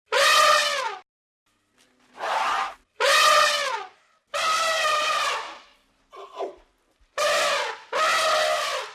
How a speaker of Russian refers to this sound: А какой из этих животных слон? Молодец! Это слон.